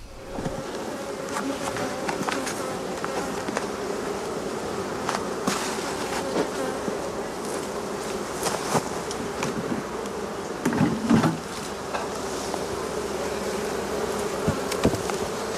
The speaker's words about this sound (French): la rencontre de Frédéric et ses abeilles du rucher de Vitry-en-Artois entre Arras et Douai.